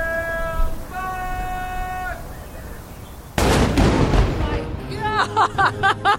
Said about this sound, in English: and we're standing on the top deck here, on the spar deck, as the first duty crew is being mustered. It's just a little before 8 o'clock in the morning, and we're actually waiting for the cannon to go off. Here it comes.